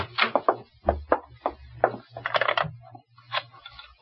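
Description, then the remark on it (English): A key rattles and clicks in the lock of a back door, Martin's key, followed by a cluster of clattering knocks as the door is unlatched and swung open, with a low hum underneath. “First time I picked the lock on the back door. This time I used the key.”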